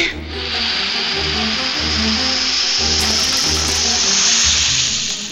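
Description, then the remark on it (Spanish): A wolf blows hard at a house of straw and knocks it down: a loud, steady rushing hiss that starts abruptly and lasts about five seconds, with a low, pulsing rumble underneath and no voices. “Como el cerdito no abrió, el lobo sopló con fuerza y derrumbó la casa de paja.”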